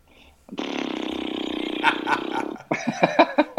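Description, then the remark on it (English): A person does a vocal horse imitation: a long, loud buzzing lip-flutter snort lasting about two seconds, then a quick run of choppy, rising whinny-like bursts. “By the horse noise you just made, I guarantee you will not get this.”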